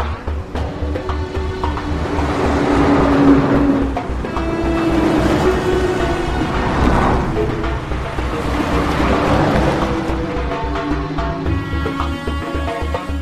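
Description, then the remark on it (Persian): Several boats wait by a pier as day breaks: a boat engine idles with a steady low chugging while water washes and swells, the surf surging and easing in slow waves over a continuous breezy background. “کنار اسکله چند تا قایق منتظرن.”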